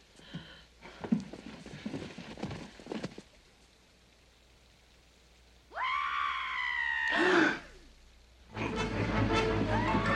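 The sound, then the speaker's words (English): A man lets out a single loud, drawn-out scream lasting a couple of seconds, after scattered clattering knocks and before a burst of steady hissing noise. “Why would he scream? He must have a victim in there.”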